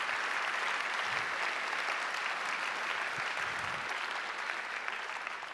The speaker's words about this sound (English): Can we give them a big round of applause to my beautiful teachers, if you don't mind?